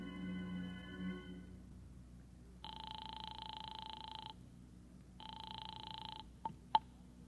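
A telephone in a phone booth is dialed with brief tones to call Howard Wilcox's home, then rings twice in long buzzy bursts, followed by a couple of sharp clicks as the receiver is picked up. Quiet otherwise, no talking.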